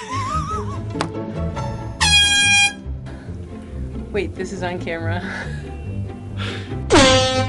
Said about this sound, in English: Air horns always make everything more fun.